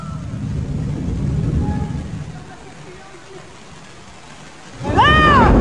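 A broad, rumbling wash of waves surges loudly against the rocks of a craggy shoreline, then recedes into a quieter hiss. Near the end a sudden high, wavering vocal exclamation cuts in over the noise.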